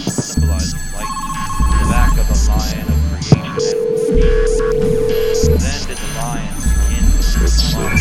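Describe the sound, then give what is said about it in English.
Steady electronic phone tones sound in separate bursts, a higher one and then a longer lower one, over a busy background of music and voices. “Some kind of phone, I bet you.”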